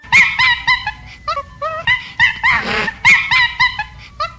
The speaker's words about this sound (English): That's right, my friends, monkeys. They're cute, but boy, are they little mischief makers. And they are fat little mischief makers close to Jahangir's house. They've eaten just about everything